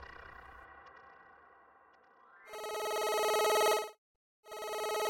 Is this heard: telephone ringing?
yes